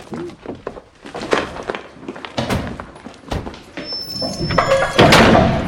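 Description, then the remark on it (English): The back doors of a prison van are unlatched and swung open from outside by a guard, with metallic clunks and a scraping rattle, followed by thuds and shuffling movement as a young prisoner is led out, with a faint murmur of voices. “Another guard opens the back doors from outside, and they lead the young man into the prison.”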